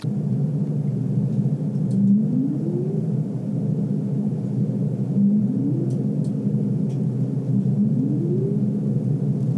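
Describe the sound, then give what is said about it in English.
Humpback whale song: three short, low rising moans, each sweeping upward in pitch, spaced a few seconds apart over a steady, dense low rumble. “Everyone knows humpback whale songs.”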